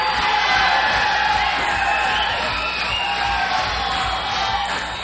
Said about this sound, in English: The crowd is going wild.